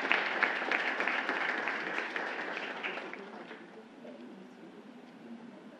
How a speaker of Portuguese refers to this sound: Uma salva de palmas ao senhor, que faz muito por Araguari.